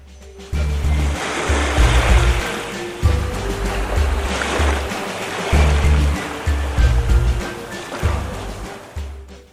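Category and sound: nature, ocean surf waves breaking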